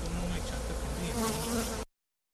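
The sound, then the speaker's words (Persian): Honeybees buzz steadily around hives at beekeeping farms in Herat province, Afghanistan, a dense, continuous hum of many insects, with no talking, lasting under two seconds before cutting off abruptly. “البته اصلاح می سازم که این گزارشی که نشد در مورد وضعیت زنبورداری در ولایت هرات افغانستان بود”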